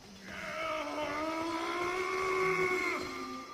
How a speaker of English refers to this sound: So this is the original Lord Rydell scream.